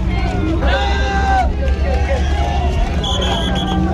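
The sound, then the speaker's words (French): A dense, loud crowd of press cameras and onlookers being pushed back by military police at night, many overlapping voices shouting and calling over a constant rumble of movement, with a sharper electronic-sounding tone cutting in near the end. “La police militaire font écarter la foule. C'est une foule c'est une foule de caméras.”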